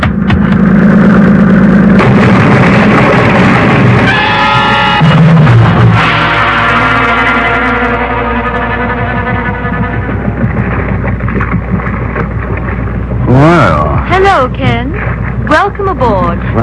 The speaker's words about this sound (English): that boat, it's getting pretty close, isn't it? Time it slowed down? Not if they intend to ram us.